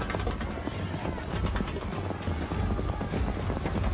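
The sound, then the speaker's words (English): Galloping hooves of Spanish cavalry horses charging into enemy ranks in battle pound in a rapid, dense rhythm, a continuous muffled thundering that stays steady and fairly loud throughout, with no voices. “Spanish cavalry thundered forward, their horses' hooves driving into the Timucuan ranks.”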